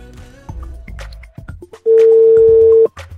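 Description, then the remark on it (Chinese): A telephone ringback tone sounds once as a phone call is placed to a prize-winning photographer: a loud, steady electronic beep lasting about a second, clear, after a stretch of quieter mixed background sounds. “然后咱们下面呢也电话连线一下”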